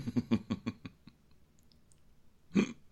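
human body sound, cough

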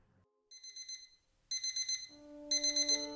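household object, alarm clock ringing

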